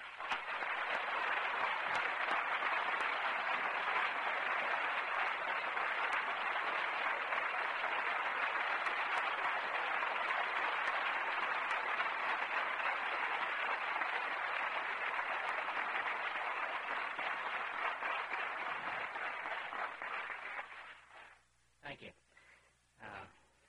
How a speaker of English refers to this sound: Curious. I wonder what you're clapping for. I guess I'm not used to this sort of thing.